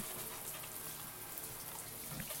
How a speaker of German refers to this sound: Und wir müssen uns jetzt nur duschen. Ja, duschen. Ich zuerst.